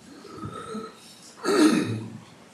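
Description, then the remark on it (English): A voice imitates a harsh, gravelly throat-clearing before spitting, a short rasping hawk that swells loudly about midway, preceded by a quieter breathy rumble, alone without speech. “And it's an Aramaic term that some commentators suggest come from the sound you make to clear your throat to spit.”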